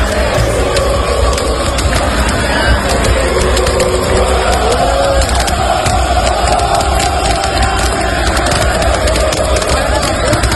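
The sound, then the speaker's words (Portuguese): A large crowd of Vitória football fans roars continuously and loudly at the arrival of the team bus at the Barradão stadium, a dense wall of cheering and shouting with sharp bursts scattered throughout. “Olha aí, ó, chegada da torcida do ônibus do Vitória no estádio.”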